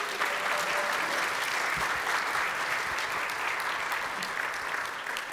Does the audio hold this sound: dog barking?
no